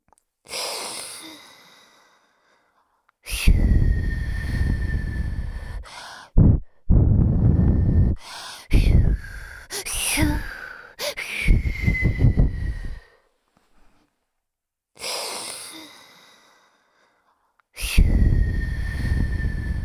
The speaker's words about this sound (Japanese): 我が輩は炎の息も氷の息も自由自在なのだ。炎の息はまだ簡単に出せたが、氷の息を吐けるようになるまでは涙ぐましい修行をしたな。そんな氷の吐息で お前のことを冷やしてやろう。行くぞ。